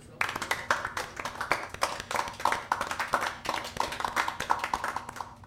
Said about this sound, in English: And now, a fresh new act here at the Twisted Swastika, straight from a sellout performance in Poland, the Nazi who says grazie, the Fuhrer of funny, the hilarious Adolfo. Applaud! Applaud for Adolfo!